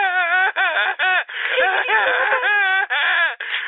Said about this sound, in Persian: از دست من گریه کن و از این گریه کردنت بمیر.